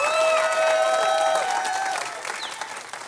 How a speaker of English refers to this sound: So, High Ridge family, would you give them a big warm round of applause? Come on, let them hear you.